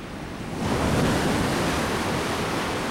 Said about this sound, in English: Later, she emerges from the sea, struggling to stay upright. She stumbles in the shallows, and rippling white spumy waves wash over her.